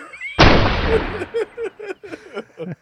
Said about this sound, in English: Okay, give me a gunshot, please.